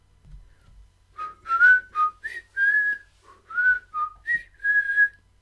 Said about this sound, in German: Ohne Zunge könnten wir nicht pfeifen.